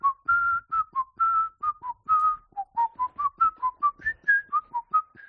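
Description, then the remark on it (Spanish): A person whistles a tune, the way they whistle it in a TV series: a quick melodic line of about two dozen short, clear notes with brief gaps, rising and falling in pitch. No one speaks. “¿podrías silbar como silbas en la serie para que suene bien?”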